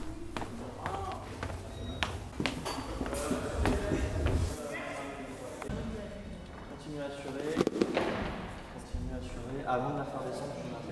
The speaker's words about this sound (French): Dans l'espace escalade, il y a beaucoup de personnes, beaucoup de bruit. On entend les bruits des pas, les bruits des personnes qui parlent, les personnes qui tiennent les cordes.